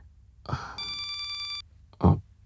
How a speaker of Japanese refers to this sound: この着信音は彼女の仕事よ。だとしたら僕が出てもそんなに問題ないよね。